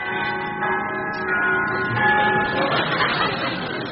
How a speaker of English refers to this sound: Well, now, I'm standing outside quite the most palatial penthouse I've ever seen. It really is most opulent. I'm just going to ring the bell.